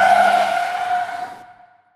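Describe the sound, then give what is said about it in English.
An approaching car's tires screech loudly in a sustained, high-pitched squeal as its headlights wash everything out, with broad road noise that cuts out abruptly, leaving a thin ringing tone that fades over about two seconds. No voices. “The car keeps coming. Before it passes, Keith crosses the double yellow line.”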